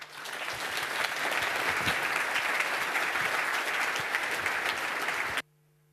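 A crowd applauds to welcome two speakers giving a talk on Red Star OS. The clapping is dense and swells quickly, then holds at a loud, even level for about five seconds before cutting off abruptly into near silence.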